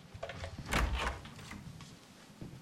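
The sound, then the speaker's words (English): A door off an upstairs landing in a house is opened, with a brief burst of scraping, rattling noise in the middle, followed by softer clicks and shuffling sounds as it settles. “Robert points to a door, and Anna goes and opens it.”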